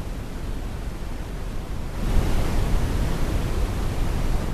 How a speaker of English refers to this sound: Let's move onto the spectrum, into the brown noise spectrum.